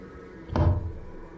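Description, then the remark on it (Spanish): A door is opened and then forcefully slammed shut, as when someone enters quickly and lets it go, landing with a deep, booming thud and a short rumbling tail, heard far off against a quiet hum with no one talking. “Ese ruido muy específico cuando la abres y luego la cierras con fuerza, como cuando alguien entra rápido y la suelta.”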